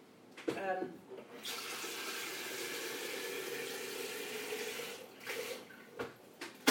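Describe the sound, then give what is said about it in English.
Water from a tap runs into a kettle being filled to put it on, with a steady rushing hiss for about four seconds, bracketed by a few handling clunks before it starts and after it shuts off. “I'm going to put the kettle on, actually, in preparation for Sam coming home.”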